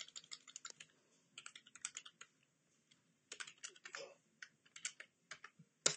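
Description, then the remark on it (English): Rapid clusters of clicking keystrokes on a computer keyboard, coming in irregular bursts with short pauses, moderately loud, with no one talking. “I'm just going to be typing away on another system.”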